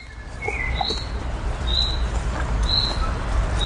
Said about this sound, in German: Das ist der sogenannte Regenruf des Buchfinkens, von dem man aber inzwischen weiß, dass er keinen Regen ansagt.